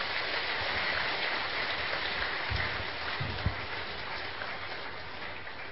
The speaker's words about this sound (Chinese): 我们下面欢迎远牧师来跟我们分享恩典的人生，我们一起鼓掌欢迎他